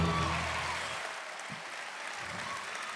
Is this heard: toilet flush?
no